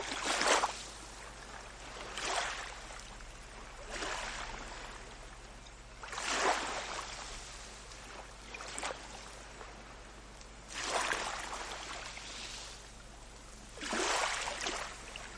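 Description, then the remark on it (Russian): Water sloshes and laps against a ship's hull in recurring swells every couple of seconds, over a faint steady low hum, with no voices. “Вы ровно дышите и слушаете звук волн.”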